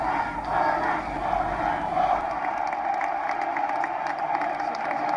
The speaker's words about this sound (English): Jubilant crowds in Timbuktu and here in Bamako gave President François Hollande a hero's welcome.